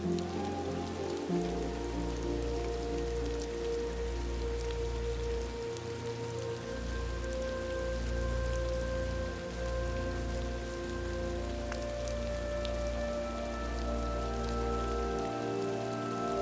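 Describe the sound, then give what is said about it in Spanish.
Steady rain patters on a surface in a continuous, even wash, mixed with soft sustained musical tones humming underneath. No one speaks. “Como si la lluvia fuese la liberación de todo aquello cuanto has estado reteniendo en tu interior.”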